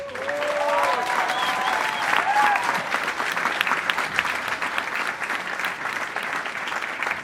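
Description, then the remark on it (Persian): Sustained theatre audience applause after the stage lights go out, a dense steady wash of many hands clapping for several seconds, with a few whistles or cheers rising briefly near the start. “نور از صحنه می ره، صدای سکوت و بعد چند دقیقه صدای دست زدن تماشاگر.”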